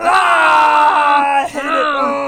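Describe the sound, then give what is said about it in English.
Several voices let out a loud, sustained scream together in frustration at having to rate chronic pain on the pain scale, a long groaning yell that breaks briefly near the end before carrying on, raw. “Yeah, and if you are somebody that has chronic pain and you have to deal with the pain scale, feel free to scream.”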